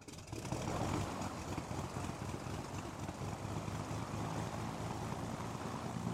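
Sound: small propeller airplane engine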